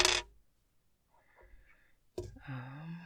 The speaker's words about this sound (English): Another 20. They're really heavy. And 12. Okay, just some dice rolls for that collab.